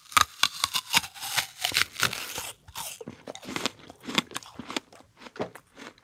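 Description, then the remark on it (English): A loud crunch of teeth biting into a crisp Cosmic Crisp apple, followed by a steady run of wet, crackling chewing sounds with short pauses between bites. No talking. “It's extremely crunchy, extremely juicy, extremely sweet, and also acidic.”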